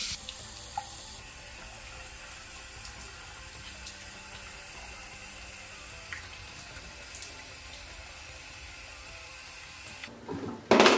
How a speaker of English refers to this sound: So I'm just gonna quickly go down to the bathroom and I'm gonna wash this off. I kind of like to use a lukewarm water.